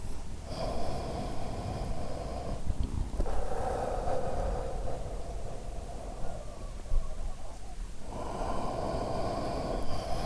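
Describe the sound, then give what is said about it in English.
Slow, deep breaths drawn in and let out, audible, in long rhythmic cycles with a soft rushing, slightly snorting quality and no talking, during a guided meditation of six breathing cycles. “Breathing in, we center in Keter. Breathing out, we send the light down.”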